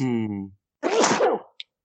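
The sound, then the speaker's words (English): A single loud sneeze: a drawn-out voiced intake, a short pause, then a breathy, explosive burst, followed by a tiny click. “Bless you.”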